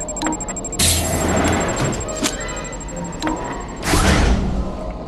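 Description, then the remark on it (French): A door slides along with a broad rushing scrape, followed by a second sliding sweep that ends in a dull thud as it shuts, loud. “Je lance et tu refermes la porte.”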